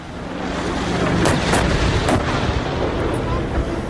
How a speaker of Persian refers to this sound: این در حالی است که شهروندان آذری ساکن در مناطق مرزی ایران از آغاز درگیری‌ها شاهد به پرواز در آمدن جنگنده‌ها و شنیده شدن صدای شلیک توپخانه‌های سنگین در دو سوی این درگیری‌ها بودند.